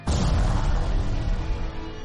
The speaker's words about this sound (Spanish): Se escuchó un disparo en la oscuridad.